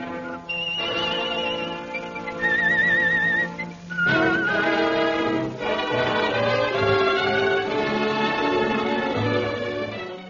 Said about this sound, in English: The distinctive Stickman logo and the saint's whistled signature tune, both devised by Charteris.